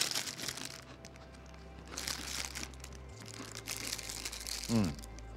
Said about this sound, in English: So anyway, we have crackers for us. And let's just go ahead and let's eat those crackers.